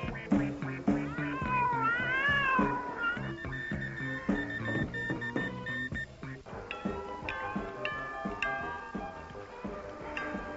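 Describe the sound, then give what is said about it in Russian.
Several cats meow and yowl in overlapping, drawn-out cries, loud, with wavering pitch that rises and falls over about ten seconds and no speech. The cats are on the shore of the English Channel. “Трусливые коты так и остались на берегу, не решившись побороться с сильным течением и ледяной водой.”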